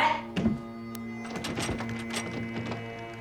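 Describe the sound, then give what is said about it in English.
The door of a back room slams shut behind a man with a heavy, low thunk, followed by a few scattered knocks and rattles over a steady low hum. No one speaks. “The moment he does, the door slams shut behind him.”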